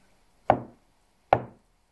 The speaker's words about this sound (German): Dann ging er zu der Tür, hinter der der Mann verschwunden war. Er klopfte an.